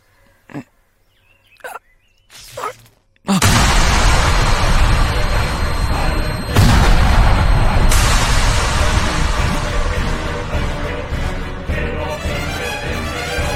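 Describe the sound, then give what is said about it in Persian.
A few faint, brief knocks give way to a sudden, loud explosion that swells into a sustained, rumbling roar, with a second blast hitting partway through and the din continuing to the end. “اون انفجار چی بود؟”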